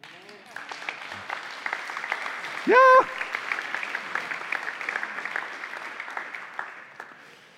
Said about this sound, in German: Einen Applaus geben, oder?